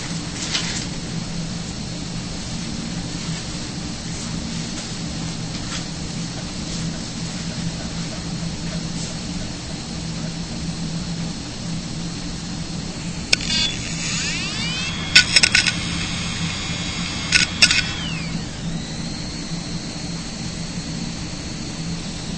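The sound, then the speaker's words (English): Steady low road rumble and engine drone inside a moving car on a ride back, with a few sharp clicks and brief whistling tones near the end and no talking. “we had some discussion in the car ride on the way back about that, so you can hear some more details.”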